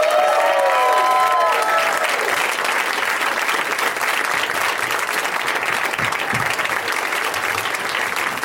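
An audience claps and cheers in steady, loud applause that fills the whole stretch as guests are welcomed out, with a few whoops and whistles rising over it near the start.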